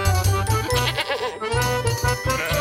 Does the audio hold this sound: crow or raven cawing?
no